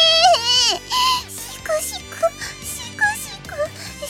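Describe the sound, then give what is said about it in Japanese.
A voice in a CD drama does an exaggerated mock sob, a run of wavering, whimpering wails and short sniffling cries that rise and fall, fairly loud over a low, steady background hum. “シクシク 泣いてますけど。”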